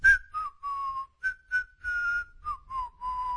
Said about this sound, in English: a cold, quiet whistle between his teeth